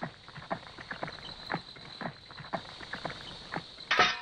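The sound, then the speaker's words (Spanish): Steady hoofbeats of a donkey walking while ridden by a baker carrying bread, a regular clip-clop of about two steps per second, moderately loud, with a brighter rattling burst at the very end. No one speaks. “¡Arre! ¡Arre, vamos, burro! ¡Ay, burro perezoso!”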